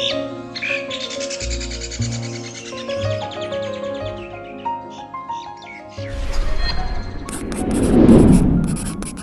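Starling calls, busy chirps and whistles over a steady tonal background, giving way to a louder rough rustling burst with sharp clicking toward the end. No one speaks.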